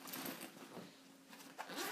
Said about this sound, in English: Okay. Zip up this bag.